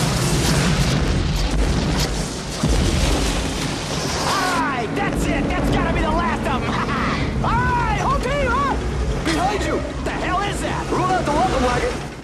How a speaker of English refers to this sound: A huge mechanical digger is knocked off a sand dune and explodes behind them.